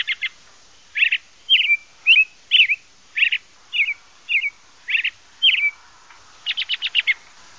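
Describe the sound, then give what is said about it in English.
An American robin sings its cheer-up, cheerio song: a steady string of clear, whistled phrases with short pauses between, ending in a quick burst of rapid, higher notes, carrying alone. “The cheer-up, cheerio call of America's best-known songbird, the robin, is a familiar sound in summer.”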